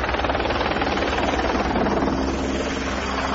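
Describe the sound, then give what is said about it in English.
A helicopter thrums steadily, its rotor chop pulsing under a loud, continuous engine roar that stays even throughout, with no voices. “I mean, obviously, a helicopter can pick you up.”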